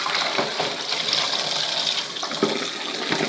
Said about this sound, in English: Now, let's do their water. Let's take that away and get some fresh. Give the dish a big rinse out.